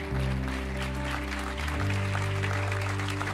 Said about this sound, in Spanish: Dar un aplauso a Jesús, iglesia.